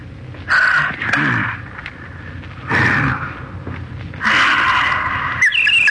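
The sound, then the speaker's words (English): A person in bed at night practicing new bird calls imitates oriole calls, dubbed the Baltimore and Ohio Orioles, four harsh, squawking bursts of varying length with short pauses between, loud, with no other talking. “Oh, just practicing some new bird calls.”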